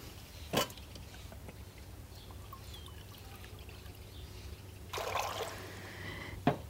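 About 4 cups of water pour into a blender jar holding 2 cups of Brazil nuts, to make nut milk, for about a second against a quiet hum, with a sharp clink before it and another right after.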